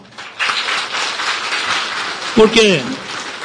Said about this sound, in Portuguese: eu gostaria que vocês dessem uma salva de palmas bem calorosa para o Jucinho, por favor.